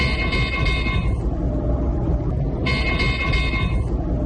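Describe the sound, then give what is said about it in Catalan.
The radar of the Pegaso anti-drone equipment sounds an alarm signalling that a drone has been detected: two long, buzzy high-pitched bursts with a pause between them, layered over a steady low rumble. No one speaks. “Això que escolteu és el radar, no?, que té aquest equip.”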